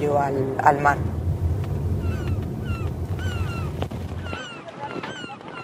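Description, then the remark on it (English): Harbor ambience at the fishing port of Águilas: a low, steady boat engine rumble that cuts out near the end, with seabirds calling repeatedly and some indistinct voices early on. “This is the Águilas port.”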